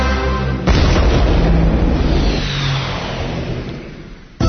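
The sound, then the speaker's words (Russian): A single loud firecracker bang goes off sharply after a short pause, then rumbles and fades slowly over several seconds, with a second sharp burst cutting in at the very end. “Петарда. 5 вибуховых темов на Еврорадио.”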